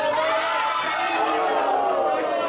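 A large crowd of local soccer fans roars and cheers continuously, a dense wash of many voices shouting together at a steady, loud level, as they watch the Seleção, the Brazilian national soccer team, and react to the match.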